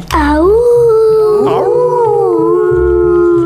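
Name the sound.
werewolf howl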